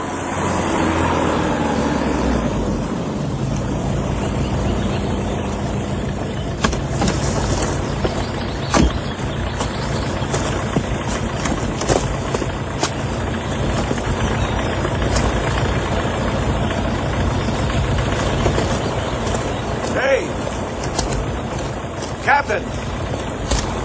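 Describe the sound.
A car engine drones steadily while the vehicle drives, a constant low rumble with broad road noise, occasional soft clicks and knocks, and indistinct voices mixed underneath.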